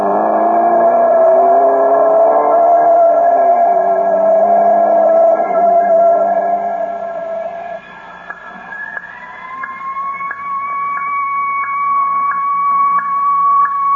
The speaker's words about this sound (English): A siren. What kind? An ambulance siren? Well, maybe not. Listen carefully. Well, police cars have a deeper sound. Fire engines waver. No, it's an ambulance, all right.